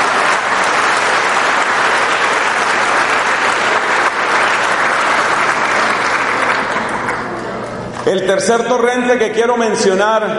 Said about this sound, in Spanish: Si hay alguien aquí que quiera a la Madre Teresa, que le dé un aplauso, por favor, a la Madre Teresa de Calcuta.